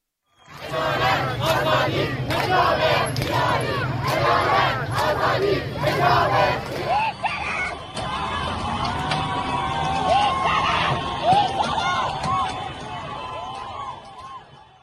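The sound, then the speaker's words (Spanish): A large crowd of protesters in Iran chants slogans against Supreme Leader Ali Khamenei in loud, rhythmic unison bursts, then breaks into a dense roar of overlapping shouts and cries, sustained throughout. “Otras han gritado consignas contra el líder supremo Ali Khamenei.”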